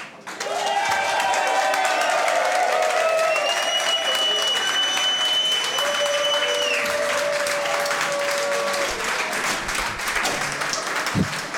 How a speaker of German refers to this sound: Euch vielen Dank, dass ihr heute alle hergekommen seid, so zahlreich erschienen und uns wieder kräftig mit Applaus unterstützen wollt.